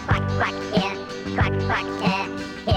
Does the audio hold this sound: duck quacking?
yes